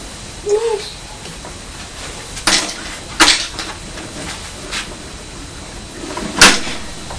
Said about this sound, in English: Drawers. Are you pulling out the drawers? Open the drawers. Mind you don't trap your fingers. They're only very tiny drawers, aren't they?